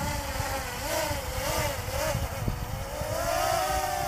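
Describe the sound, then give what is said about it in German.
A drone's propellers buzz in a continuous, fairly loud whine whose pitch wavers up and down with bursts of throttle, over a rough airy rush, with no voices. The drone is landing and is caught by hand, then given full throttle again while held. “Da hält sie die Drohne in der Hand und er gibt nochmal Vollgas.”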